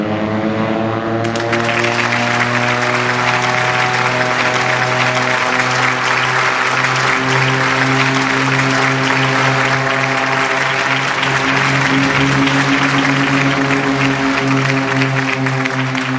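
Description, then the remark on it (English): A crowd at an airport tower bursts into loud, sustained applause and cheering after a brief pause as the Indonesian N250 Gatot Kaca aircraft takes off on its first flight, over the constant low droning hum of a propeller aircraft engine. “The airport tower resounded with cheers and applause as my pilot, Erwin Danuwinata, and my co-pilot, Sumarwoto, managed to get me up into the sky.”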